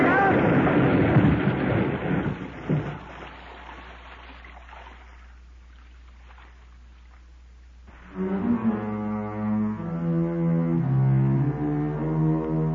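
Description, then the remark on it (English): Loud, dense roar of two motorboat engines gunned wide open at full throttle as a boat swings straight in, cutting off into near quiet with faint rumble, then a voice speaks over a low hum. “Alex suddenly swung his boat straight in at us and gunned his two motors wide open”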